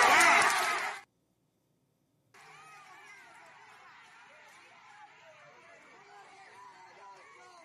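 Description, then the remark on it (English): A crowd of protesters in Cuba chanting and shouting demands for power and food, interrupting officials' speeches: a loud, brief burst cuts off into a second of silence, then a steady roar of many voices carries on. “the protesters appeared to interrupt speeches by plainclothes communist officials with chants demanding power and food.”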